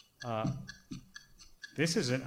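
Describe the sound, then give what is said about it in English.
A countdown clock ticks steadily in an even rhythm, moderately loud, timing 15 seconds to think about a math problem, while a voice-like tonal sound swells over it at the start and again near the end. “The teaching clock is giving me math anxiety.”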